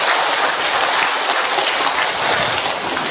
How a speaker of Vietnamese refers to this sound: Chúng ta một tràng pháo tay thật lớn để chúc mừng, thưa anh chị em.